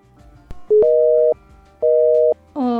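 A telephone busy signal from calling a phone whose receiver is off the hook: loud, steady electronic tones pulsing on and off in an even rhythm, about three beeps, with no voices present.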